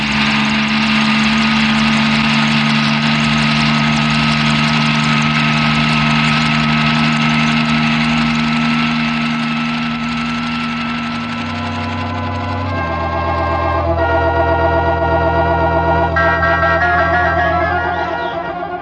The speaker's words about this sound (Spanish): El helicóptero con los criminales se aleja del sector.